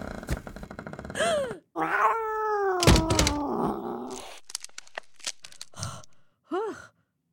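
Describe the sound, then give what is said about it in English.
A black cat meows several times, including one long, drawn-out yowl, with a sharp thump partway through and a short final meow after a pause. “had been saved by the black cat.”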